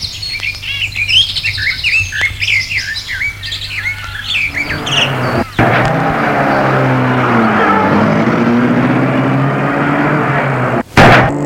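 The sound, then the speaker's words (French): Birds chirp and tweet for a few seconds before a car engine turns over and rises into a loud, steady roar as the vehicle pulls away, drowning out the birdsong. “Et la voiture s'est mise en remarche.”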